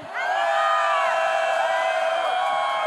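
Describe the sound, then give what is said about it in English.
A large crowd with hands raised screams as loud as it can on a count of three, a dense sustained roar of many high-pitched voices that starts abruptly and holds steady at full volume for a few seconds. “When I count to three, scream as loud as you can.”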